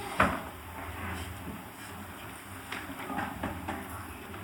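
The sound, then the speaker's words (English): One of two doors being closed shuts with a solid thud right at the start, followed by a few fainter knocks and clatters over a low, steady rumble. “Maybe we can close those two doors.”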